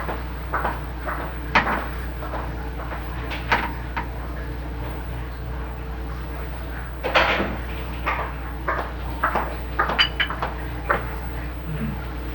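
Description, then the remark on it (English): Plastic clunks, clicks and rattles come in irregular bursts as a portable plastic Playmate cooler is opened and handled, with a sharper knock around the middle, all over a steady low hum. “Hey, do you have a Playmate? Cooler.”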